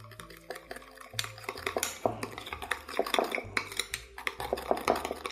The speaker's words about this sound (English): Four teaspoons of sugar. I use 2 teaspoons of Diamond Crystal kosher salt here. Again, if you have Morton's, I would go maybe more like a teaspoon and a half, just because that's a denser, saltier salt. Stir those things together.